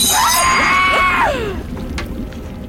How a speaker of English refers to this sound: Now who screamed?